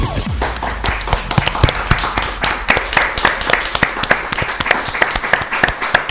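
A burst of applause from a small group, sharp claps clattering irregularly for about six seconds at a steady, fairly loud level, with no voices over it.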